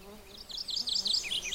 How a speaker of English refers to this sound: It's actually, the morning warbler song is not that hard to learn because it's fairly consistent. It will vary, but you kind of recognize that pattern.